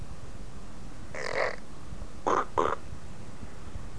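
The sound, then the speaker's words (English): A child imitates a duck with three nasal, raspy quacks: one drawn-out call, then a short pause and two quick clipped ones, clearly audible over a low background hum. “How about the duck?”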